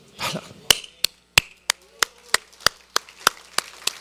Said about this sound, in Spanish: Perdónenme, aplaudo a lo que me está saliendo de mi corazón.